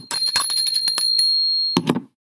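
signal or alarm, bicycle bell ringing

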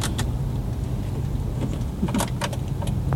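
vehicle, car driving by

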